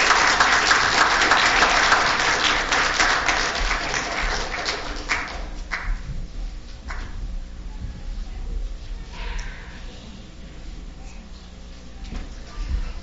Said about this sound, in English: Can we all say a great big thank you with a round of applause for them?